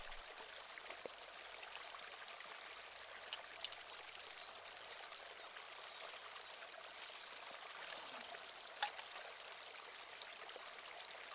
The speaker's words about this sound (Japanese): 水分を足すと泡立つペーストなんです。この泡でお耳の外側の汚れを浮かしていきましょう。